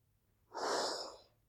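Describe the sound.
A voice imitates a single heavy, breathy exhale standing for God breathing as the Spirit falls on an audience, a loud airy rush lasting under a second with nothing else around it.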